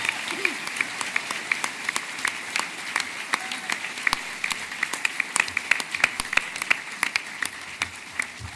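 An audience claps steadily for several seconds to welcome a guest, a dense patter of many hands with sharp individual claps standing out, fairly loud and sustained without any voices.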